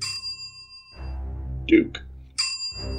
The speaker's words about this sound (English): Just hit the bell.